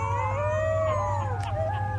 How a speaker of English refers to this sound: That's a group of howling wolf pups. If biologists hear those sounds, they can theoretically find dens and maybe confirm wolves are breeding.